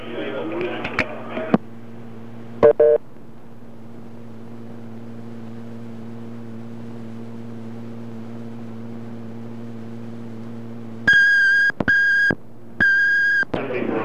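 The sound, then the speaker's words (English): An answering machine's electronic tones as a message is left on it: a short blip early on, then two long, loud beeps near the end, over a steady low line hum that follows a brief burst of noise. “There's a message, leaving a message on someone's answering machine.”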